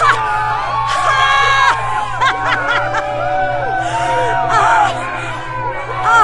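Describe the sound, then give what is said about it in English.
A crowd in the CCC control center of the ship Vanguard 2 erupts in cheering, celebrating that Turek is gone, with overlapping whoops, shouts and bursts of laughter filling the air continuously, loud and excited, over a steady low hum. “Kai knew the cheers in Vanguard 2's CCC were being echoed throughout the ship, in other ships.”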